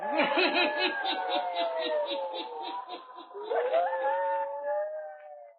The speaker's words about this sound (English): Guides her into the music room where she sinks into a chair, sobbing softly.